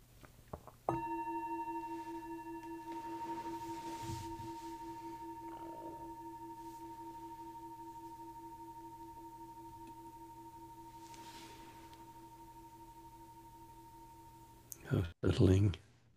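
A meditation bell is struck once to start a guided meditation of about 20 minutes and rings on in a long, steady, resonant tone with shimmering overtones, fading very slowly for about fourteen seconds before a voice starts speaking.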